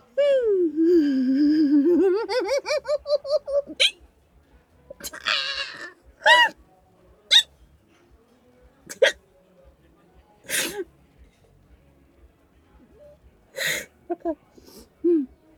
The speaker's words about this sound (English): You got hiccups, but I don't.